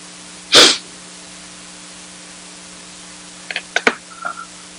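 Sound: computer mouse clicking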